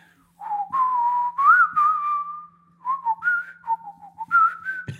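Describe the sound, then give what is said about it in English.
A man whistles a slow, sustained hymn melody, with long held notes gliding between pitches in a gentle tune, no talking over it. “He was whistling because he couldn't remember the words, but he kind of knew the tune.”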